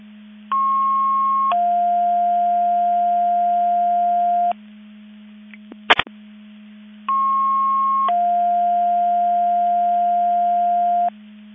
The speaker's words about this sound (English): Qualcomm Mavis Division 2, testing the Division 2 Mutual 8 box alarm alerting receivers. Testing 12345, 54321, and 955 hours. Please reset all receivers.